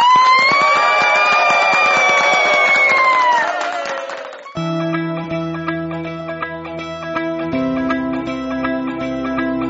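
A crowd, called on to applaud, claps with scattered cheers and rising tones for about four seconds, loud and dense, then the clapping cuts off as steady music starts playing.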